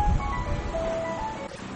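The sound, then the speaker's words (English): A car outside, heard as a steady tonal, horn-like sound over a low engine rumble, continuous for a couple of seconds, with no one talking. “Okay, maybe Swamiji's car also.”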